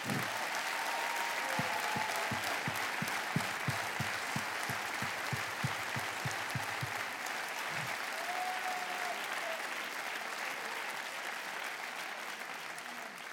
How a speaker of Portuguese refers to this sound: Eu peço, por favor, o vosso maior aplauso